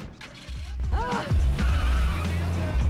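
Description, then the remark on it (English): A convertible brakes hard over a deep engine rumble as a man steps out in front of it, its tires letting out a short, wavering squeal before the vehicle grinds and creaks to a stop. “Warner, is passing by in his convertible with Rex.”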